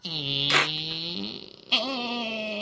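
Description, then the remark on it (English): A voice imitates a single bolt on a tavern door sliding very slowly: a long, buzzy, drawn-out tone that breaks off briefly, then resumes as a second sustained groan, with no words spoken. “Yeah, and then there's just, as opposed to all of the locks on the tavern door, there is one single bolt that very slowly goes.”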